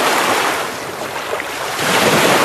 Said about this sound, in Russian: Шум моря.